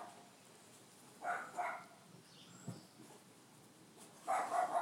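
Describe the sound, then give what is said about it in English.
A Cavalier King Charles Spaniel with half an ear barks nearby: two quick, yappy barks, a short pause, then another burst of barking at the end, standing out against quiet background noise. “I think it's Max. He's a Cavalier King Charles Spaniel”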